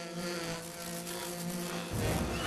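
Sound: angry bees buzzing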